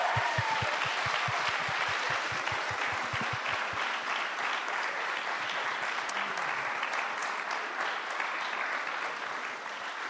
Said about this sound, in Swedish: Hörrni, vi ger dem en stor applåd. Tack ska ni ha.